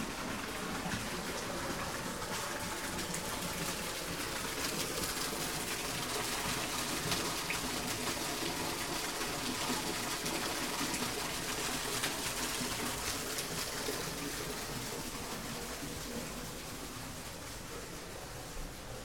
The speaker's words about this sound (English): Here's the waterfall.